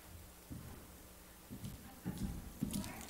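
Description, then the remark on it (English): A person imitates horse hooves clip-clopping with their mouth, making a handful of dull knocks in a loose, uneven rhythm. No one speaks. “I wasn't a very good horse, but that was a horse.”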